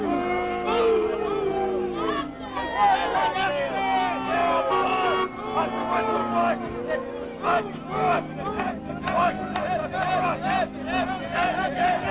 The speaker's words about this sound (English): Palm Sunday, 1983. Washington and former Vice President Walter Mondale tried to attend Mass at St. Pascal's Church on the city's northwest side. They were met by a booing crowd of Epton supporters and Right to Life demonstrators.